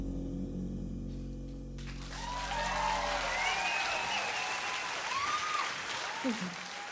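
A final held music chord fades into loud, dense applause from a concert audience, steady clapping with scattered whistles and cheers rising over it.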